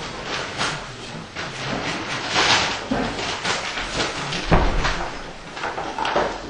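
A door is pulled shut with a dull thud partway through, at the start of a talk, amid steady rustling and shuffling room noise, with no speech.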